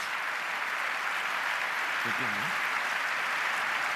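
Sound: audience applause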